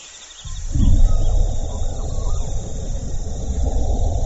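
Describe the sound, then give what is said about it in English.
A male kakapo's deep, resonant booming mating call rumbles low and steady after a brief quiet start, carrying on for several seconds over a faint, thin high-pitched background hum. “The male's song is as peculiar as the bird itself. More frog than parrot, it can be heard up to 3 miles away.”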